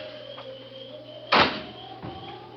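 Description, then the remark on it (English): A car door slams shut once with a solid thud that rings briefly, set against a low steady hum and a faint softer knock afterward. “They sat there in the car perhaps 10 minutes before the car door slammed shut.”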